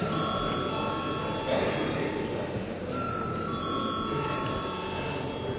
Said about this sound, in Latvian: Lūdzu zvanu.